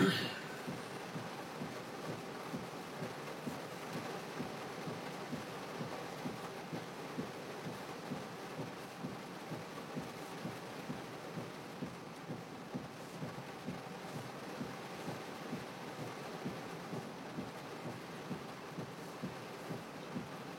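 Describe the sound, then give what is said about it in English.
Heavy rain pours down in a dense, steady hiss with a low rumbling undertone and faint regular thumps, continuous throughout and fairly quiet overall. “But with the way it's raining, who knows, it might just take me just as long to get home.”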